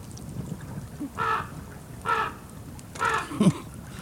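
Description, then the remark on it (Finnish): A raven caws three times, hoarse calls spaced about a second apart, moderately loud over a low outdoor rumble, with a brief low thump near the end. “Korppi perkele.”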